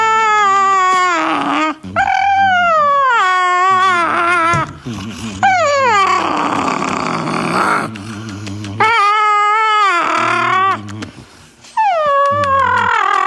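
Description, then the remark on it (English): A grumpy dog in a YouTube video howls and whines in long, wavering high-pitched cries, broken by a rough, gravelly growling stretch in the middle; loud and continuous, with no one talking. “Here's the grumpy dog.”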